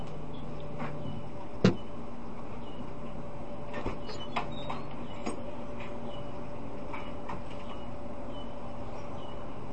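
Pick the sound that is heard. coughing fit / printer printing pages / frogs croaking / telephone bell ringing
printer printing pages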